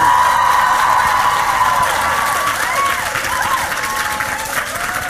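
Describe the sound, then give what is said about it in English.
A crowd claps and cheers loudly and steadily for about five seconds to vote for the first entry in a contest, with a few shrill rising and falling whistles cutting through the roar. “If you thought that first one was the best, cheer it up, please.”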